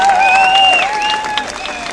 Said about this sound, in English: And on the other side, well, a little cheer for the bagpipes.